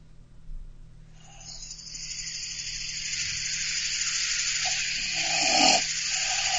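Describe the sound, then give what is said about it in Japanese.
A person imitates a long, rasping human snore, a sustained noisy breath that swells louder toward the end, alone with no talking. “そんな、いくらなんでも人間のいびきですからね。”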